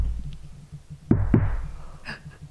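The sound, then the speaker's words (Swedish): Two sharp knocks in quick succession, fairly loud, rapping on a hard surface over a low background rumble, followed by quiet. A person is knocking to answer yes-or-no questions on a call that came in via SOS emergency services: once for yes, twice for no. “Men jag kommer ju fram till det att jag säger till den här personen att knacka en gång om det är ja.”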